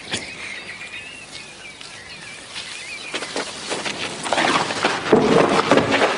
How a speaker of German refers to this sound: Dann höre ich auf einmal wieder Vogelgezwitscher